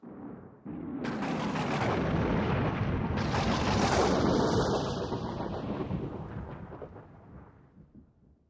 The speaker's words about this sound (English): One evening in July, there is a big storm.